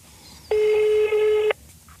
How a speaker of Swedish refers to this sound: Här har du hennes telefonnummer, kid. Mm. Så ringer vi henne.